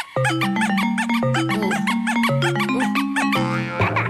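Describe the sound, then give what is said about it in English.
A rapid, steady run of loud squeaky-toy squeaks, pitched and bouncy, repeating in a quick rhythm over a layered tonal backing, edited into an alarm sound, ending in a brief noisier burst. No one speaks. “Like the little laughing baby's all right, but the squeaky toy thing, yeah.”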